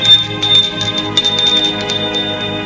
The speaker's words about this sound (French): On sonne à la porte.